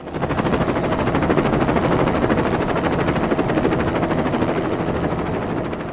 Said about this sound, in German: Der Weihnachtsmann kommt mit dem Hubschrauber.